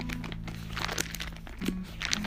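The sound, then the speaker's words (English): Thin paper pages of a real printed Bible, held in a pastor's hand, being turned, giving a quick run of soft, crinkly rustles and crackles over a couple of seconds, fairly quiet, with a low steady hum underneath and no talking. “This is the real pages of the word of God.”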